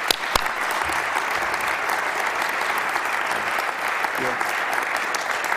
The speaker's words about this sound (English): Let's welcome David with a round of applause.